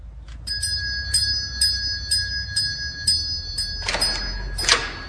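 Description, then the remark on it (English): A bright, high-pitched doorbell rings repeatedly in quick, steady strikes, about twice a second, at the front door of an Elizabethan manor house country home just outside Surrey, before a brief burst of rustling noise near the end. No voices. “Who's at the front door, Littleton?”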